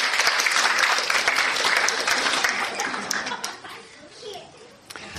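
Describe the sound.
An audience breaks into sustained applause for a volunteer who has just blown up a balloon, dense clapping gradually thinning out, with a few children's voices calling out beneath it near the end.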